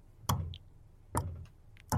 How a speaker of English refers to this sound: you hear a knock on the door slowly.